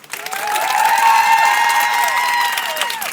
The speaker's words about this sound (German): wir wollen jetzt mal kurz testen, wie das klingt, wenn alle hier klatschen und schreien, so laut sie können. Ich zähle jetzt runter und dann wird's laut im Auto. 3, 2, 1.